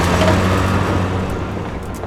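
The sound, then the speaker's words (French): A rickety, worn-out old bus's engine rumbles loudly and steadily with a low droning hum as it speeds away after dropping off its passengers, the sound easing off slightly as it pulls away. No voices are heard. “Arrivées sur place, le bus qu'elles ont pris, qui est complètement déglingué, il les lâche là. Il repart en trombe et il les abandonne à leur sort.”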